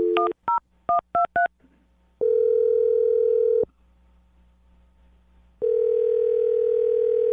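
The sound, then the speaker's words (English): A quick run of five touch-tone keypad beeps, followed by two long, steady ringback tones separated by a silent pause, clear with no one talking, as a woman's phone number is dialed on the radio show Brooke and Jubal in the Morning. “Well, I'm going to dial her phone number right now and see if we can figure it out.”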